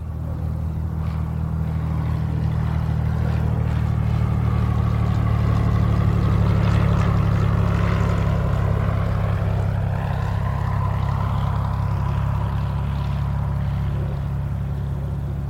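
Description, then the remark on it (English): A steady, loud propeller engine drones with a deep low hum, the pitch wavering slightly as a small chartered airplane taxis along the ground to a tiny terminal building in Spencer, Iowa, no voices present. “The candidate's small chartered airplane taxis into a tiny terminal building in Spencer, Iowa.”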